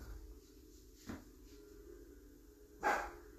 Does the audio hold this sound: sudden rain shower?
no